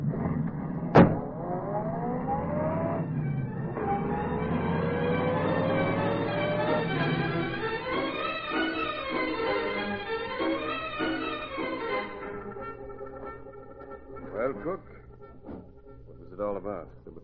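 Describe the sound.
A police squad car door slams, then its engine starts and revs upward with rising whine as it pulls away to chase the Green Hornet car, followed by a wavering, up-and-down siren wail. Voices are heard toward the end.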